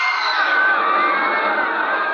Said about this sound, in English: I heard the terrified roar of thousands of throats, and I knew it was death.